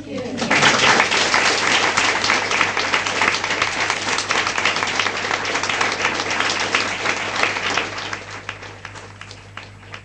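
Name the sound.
audience applause and clapping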